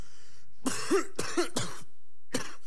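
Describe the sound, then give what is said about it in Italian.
Four harsh coughs in a loose sequence, the first ones rough and throaty, the last one short and a little softer after a brief pause, with no talking. “La mia malattia è la tosse che porto.”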